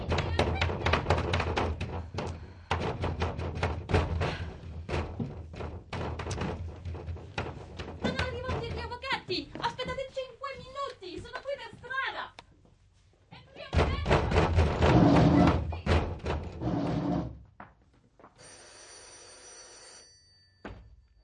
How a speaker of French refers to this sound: la polizia ha ricominciato a battere sulla porta. Continuano a urlare di aprire. La police a recommencé à frapper à la porte. Ils continuent à hurler d'ouvrir.